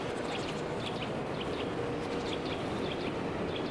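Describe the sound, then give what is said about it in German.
Birds chirp repeatedly in short, high bursts throughout, over a steady wash of outdoor background noise like wind or traffic. No one speaks. “Hier sind wieder Vögel.”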